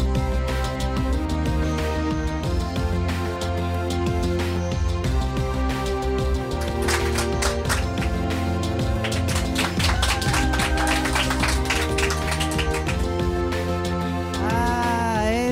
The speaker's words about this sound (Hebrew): אנרגיה, איזו אנרגיה, איזה יופי. שימו, שימו עוד כפיים, בנות. מקסים.